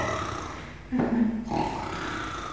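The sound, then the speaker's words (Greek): A voice imitates a man's loud snoring with a single rough, drawn-out rasping snore lasting about half a second, fairly loud against a quiet background. “Και άρχισε να ροχαλίζει πολύ δυνατά.”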